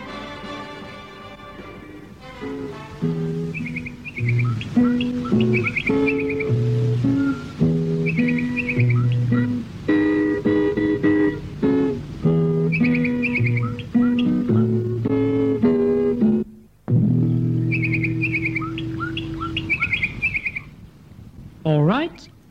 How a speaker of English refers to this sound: Get paper and pencil ready, please, and listen very carefully to the following identification tune.